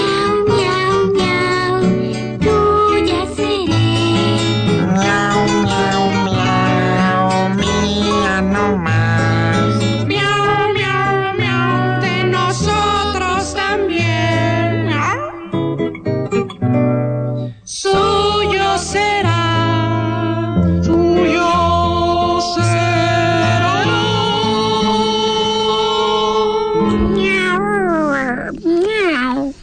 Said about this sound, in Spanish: Con este bolero del gato de la troupe, comenzaremos a pagar la deuda con el público de Radio Ombligo